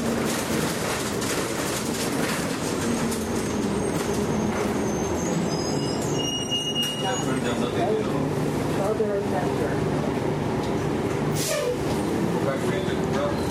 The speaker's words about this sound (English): This is the number 9 Bellamy bus. Coming back from the only cafe. You take the subway from Donlands to Warden, and you hope you don't have too long a wait for the 9 Bellamy. And you hop on, and here you are. Noisy old bus.